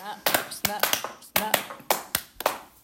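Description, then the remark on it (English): A quick run of about seven sharp snapping claps, irregularly spaced, imitating the snap of crocodile jaws. “Snap.”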